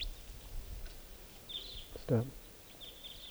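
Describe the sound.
Faint, high-pitched calls from a large flock of wild birds flying around come in short scattered bursts over a low, steady background hiss, with one brief spoken word from a man partway through.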